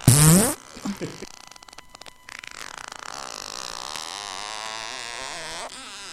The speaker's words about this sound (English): With a fart at the end.